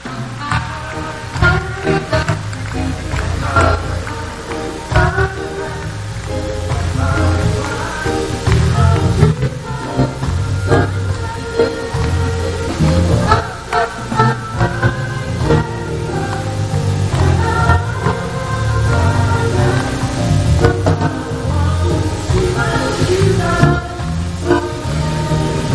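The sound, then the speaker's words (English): An audience claps for Jesus and the Almighty God, steadily for the whole stretch, the handclaps blending into loud, continuous music with a heavy bass line and sustained melodic tones. “Don't be stingy with clapping. Come on, clap for the Almighty God.”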